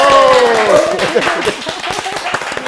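Hand clapping starts after a brief voiced tone fades out: a loose, irregular run of sharp, bright claps, fairly loud, from a small group rather than a big crowd.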